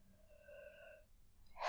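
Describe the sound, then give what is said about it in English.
A soft, voiced yawn: a drawn-out tone lasting about a second, steady in pitch, followed by a brief pause and a short, breathy exhale at the end. “Yawn.”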